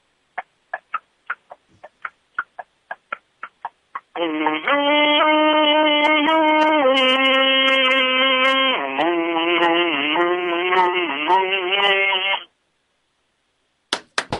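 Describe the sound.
A radio caller from Ladue imitates a horse's clip-clop with a steady run of tongue clicks, then hums a loud, sustained melody with shifting pitch for several seconds. After a pause, a few more clicks follow.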